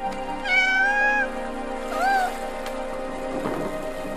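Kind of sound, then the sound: animal, cat meowing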